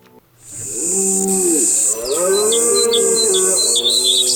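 Birds chirp in short bursts over a steady high insect-like drone, while a low, drawn-out animal call swells and bends underneath; no one speaks.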